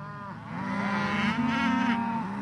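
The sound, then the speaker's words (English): A hungry Black Angus cow on a farm in Green, New York, as the sun gets low, lets out a long, low moo that swells and holds steady for a couple of seconds, loud, with no one speaking over it, as the cattle follow into a pasture of tall grass. “Doug Rutz opens a big metal gate, and the Black Angus cattle follow him into a pasture of tall grass.”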